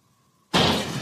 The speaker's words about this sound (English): All of a sudden, as I'm lying completely still, a loud crashing sound comes from out in the hallway. Sorry, guys. That was me. I was trying to get it. I dropped my Mountain Dew can.